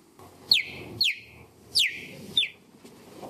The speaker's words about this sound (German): Also das ist kein kleines Vögelchen, das ist wirklich ein Gepard, die fiepen so.